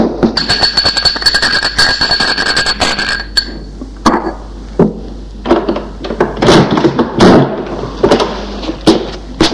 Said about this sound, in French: Gérard monte les escaliers en courant. Émile entend qu'il sonne à la porte.